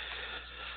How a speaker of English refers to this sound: So let's begin. Let's begin. I'm just shuffling the cards here